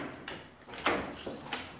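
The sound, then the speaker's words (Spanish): A door of a house is opened: a short run of latch clicks and a brief scraping swing, with a few sharp knocks spread over about two seconds and no voices. “Ahora en la casa, Elsa abre la puerta.”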